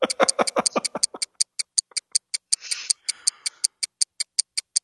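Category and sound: sound effect, clock ticking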